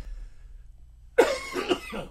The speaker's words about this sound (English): Yeah, let me just clear my throat. Excuse me.